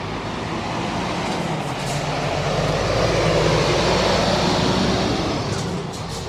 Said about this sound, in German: Der Lärm, der von diesen Autos ausgeht, ist mir einfach unverständlich. Gut, das ist sogar ein riesen Laster, muss man sagen.